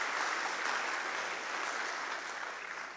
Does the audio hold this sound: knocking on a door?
no